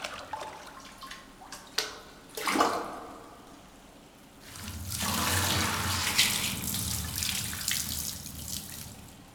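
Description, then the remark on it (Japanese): Splashing water in a bath, a few short sloshes and clinks followed by a loud, sustained gush of water poured from a container over a head before hair washing, rushing and hissing for several seconds. “しっかりと目をつむって、せーの、ザバーン。”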